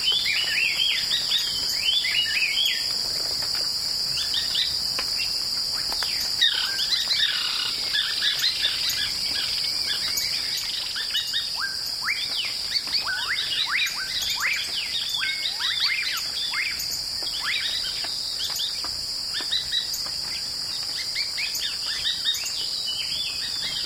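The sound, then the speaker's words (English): A busy outdoor chorus of many birds chirping and calling at once in a shrubby field on the Yucatan Peninsula, Mexico, layered over a steady, high-pitched insect drone, with no voices and an even, continuous density throughout. “This avian soundscape, recorded in a shrubby field, can be found on the CD ….”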